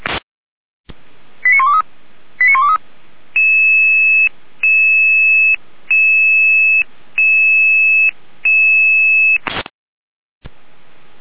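Emergency dispatch alarm tones: two quick warbling chirps, then five evenly spaced, steady electronic tone bursts, loud, bracketed by sharp clicks, with no voices.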